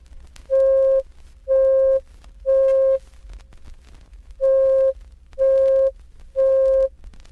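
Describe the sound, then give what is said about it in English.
A steady pure tone at 523 cycles per second, the note C5, the fifth C from the left on a piano keyboard, sounds in six loud, even beeps, each about half a second long, grouped three and three with a longer pause between, over a faint low hum. “By increasing it to 523 cycles per second, we hear C sub 5, which is the fifth C starting from the left on the piano keyboard.”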